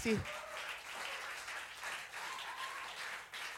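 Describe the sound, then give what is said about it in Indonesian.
Sustained applause from an audience, called for everyone in attendance at an event supporting Indonesian music: a dense, steady wash of many hands clapping at once, fairly loud throughout, with a brief voice at the very start. “Tanpa berlama-lama lagi, sekali tepuk tangan buat lu semua yang udah ada di sini.”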